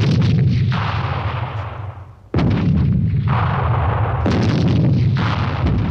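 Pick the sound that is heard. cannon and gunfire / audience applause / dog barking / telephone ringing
cannon and gunfire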